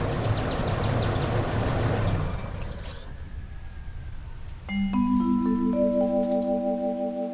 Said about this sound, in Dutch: Op dat moment hoort hij achter zich een auto stoppen.